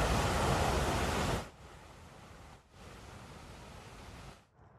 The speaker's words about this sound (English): The Lexington Reservoir and South Bay Reservoirs spilling over from this constant rain and runoff as well. They're calling it a rare sight that is generating some excitement and bringing a lot of people out to watch all the water.